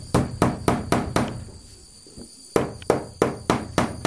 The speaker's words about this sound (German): Der Kacike hämmert dicke Nägel in eine Holzwand, um eine große Leinwand aufzuhängen.